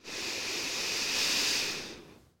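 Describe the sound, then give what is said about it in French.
A single deep, steady inhalation, a soft airy hiss that swells over about two seconds and then stops, with no talking. “Prends une profonde inspiration pour te redynamiser.”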